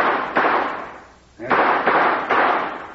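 Gunshots fired into the air in the wind as a signal for a rescue party: about five loud cracks, two quick shots, a brief pause, then three more in steady succession, each trailing off into a noisy echo.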